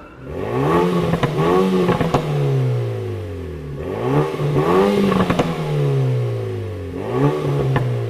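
A compact car weighing 1,522 kg revs up three times, each rise followed by a falling drone, with sharp crackling exhaust pops and bangs, which it gives only in its sportier drive modes, scattered through the throttle lifts. No voices.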